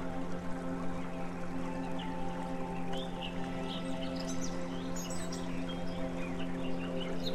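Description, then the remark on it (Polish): Scattered bird chirps and short song phrases, with the birds singing louder, rise above a steady, humming drone, moderately faint, clustering mostly in the middle of the stretch. “Zauważasz, że ptaki zaczęły głośniej śpiewać.”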